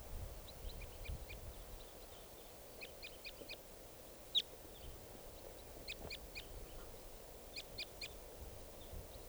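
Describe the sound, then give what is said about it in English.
Faint calls of a type 2 wild bird come in short clusters of high, thin chirps, repeated every second or two over a low, steady background hiss, with one brief sharper note standing out midway. “There's a type 2 bird here. Wild bird.”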